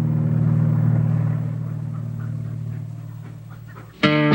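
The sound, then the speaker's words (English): A beat-up old Chevy with crude flames painted on its front drones low and steady, slowly fading as it pulls away down the road, before a sudden bright, tonal burst cuts in at the very end. “The old car barrels down the road.”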